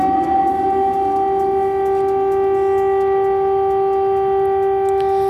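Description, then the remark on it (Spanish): Air raid sirens wail in Kyiv in a steady, sustained tone with strong harmonics, holding loud and unbroken throughout with no voices present. “y mientras en Kiev sonía, volvían a sonar las alarmas antiaéreas.”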